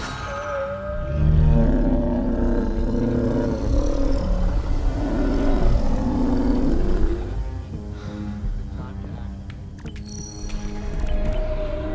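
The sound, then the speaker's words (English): A loud, deep, drawn-out bellow of a Gormagander space whale with rich wavering tones swells for several seconds as it beams in via transporter into a starship bay, then gives way to a lower rumble flecked with bright, crackling sci-fi shimmers of the transporter beam. “The Gormagander beams in.”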